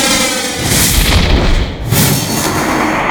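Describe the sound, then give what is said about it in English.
Loud, dense sci-fi blaster effects fire in a rapid barrage, booming zaps and bursts layered over one another with a brief dip before the volley resumes, no voices. “Blasters.”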